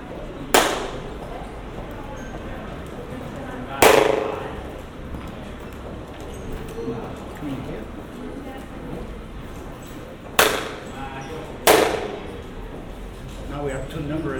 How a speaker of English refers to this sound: And finally, we record a beautiful fluttering echo through a binaural system. This is the fluttering echo. Can you hear it?